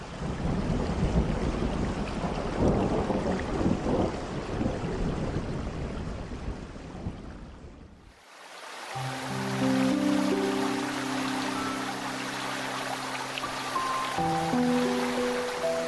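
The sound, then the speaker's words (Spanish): Steady, heavy rain roars with deep rolls of thunder rumbling underneath, then cuts off about halfway as sustained music with held tones takes over. “Imaginemos que el agua cae. Suenan las ventanas, suenan el techo de la casa, suenan la naturaleza.”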